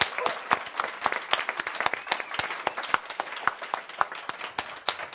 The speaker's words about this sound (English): So how about a really big applause for the staff? Thank you.